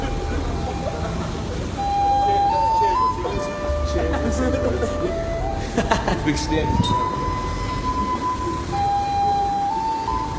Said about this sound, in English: Now, as you can hear, there are cars going by, and you know, there's the hustle and bustle of what you hear on the streets.